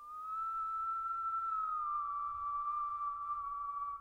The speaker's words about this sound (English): But one night I was lying in bed, and I began hearing somebody whistling.